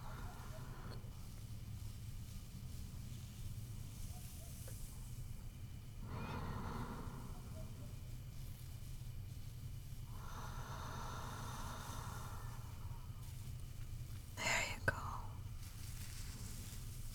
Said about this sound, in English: Go ahead and move your head down to my chest. There you go. Can you hear my heartbeat? Oh, good. Just keep listening to that. Listen to my heart. And follow my breathing.